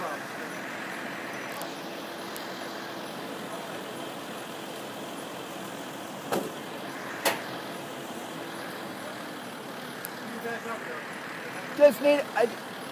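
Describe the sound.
A truck, blocking the sidewalk curb cut at the 13th Street station of the Market-Frankford Line, idles with a steady, low rumble and faint hum, broken by a few brief knocks and clatters, while muffled voices drift in the background.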